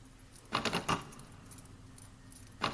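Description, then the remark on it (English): Keys jangle in a quick cluster of bright metallic shakes, pause briefly, then rattle once more at the end. The jingling is fairly loud, with no voices. “Keys. Keys. Double tap for object description. Keys.”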